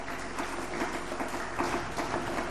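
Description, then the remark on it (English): An audience claps their hands to Jesus, a dense, steady wash of many overlapping claps with no distinct beat, fairly loud and continuous throughout, with no voices standing out above it. “Let's give a clap of hands to Jesus.”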